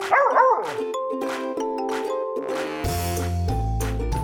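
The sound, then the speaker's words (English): A dog, Ella, barks happily after finding her bone, in a quick couple of loud yaps, followed by a bright, sustained musical jingle that carries on to the end. No one speaks. “Yes, Ella is a very, very happy doggy.”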